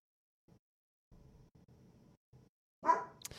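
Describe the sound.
A person imitates a dog, with a few low, growly voiced sounds building into one loud, sharp bark near the end.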